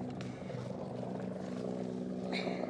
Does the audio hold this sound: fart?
no